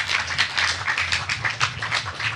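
An audience gives a roaring round of applause for a participant, many hands clapping in a dense, irregular patter that stays at an even, fairly loud level throughout, with no voices over it.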